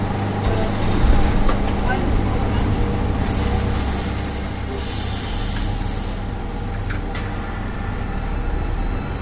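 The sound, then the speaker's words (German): Steady low rumble heard from inside the trailer of a moving truck on a city tour of Duisburg, Germany, with about 49 passengers seated on small benches, a burst of hissing air midway, loud and continuous throughout. “Wir sitzen im Anhänger des LKW auf kleinen Bänken wie in einem winzigen Kinosaal, dort wo normalerweise irgendwelche Waren transportiert werden.”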